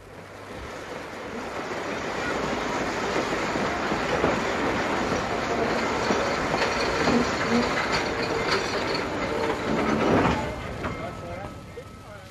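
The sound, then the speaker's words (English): A train rumbles through Weybridge Railway Station, its steady, broad roar filling the scene and swelling briefly near the end, with faint indistinct voices blended into the background. “he was ordered to report to Weybridge Railway Station, where he would be met by a certain man.”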